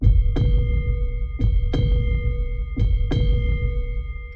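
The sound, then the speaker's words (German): A deep, booming heartbeat thuds in steady lub-dub pairs, three beats in all, loud over a low sustained hum. No one speaks. It is a sound effect in an advertisement for Krumbach mineral water, presented as the heartbeat of the Allgäu. “Kumbach Mineralwasser präsentiert den Herzschlag des Allgäus.”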